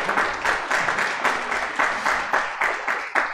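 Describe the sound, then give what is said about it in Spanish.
A church audience applauds loudly and steadily after a prayer, many hands clapping together in a dense, slightly rhythmic wash of claps that carries on throughout without any voices. “Denle un fuerte aplauso, mis amables hermanos.”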